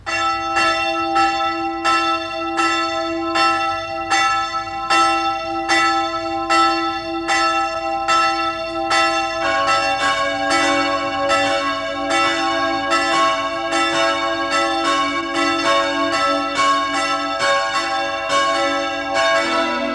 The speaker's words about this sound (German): Es ist 12 Uhr. Sie hören die Glocken der Pfarrkirche zum heiligen Franz von Assisi in Lannach in der Steiermark.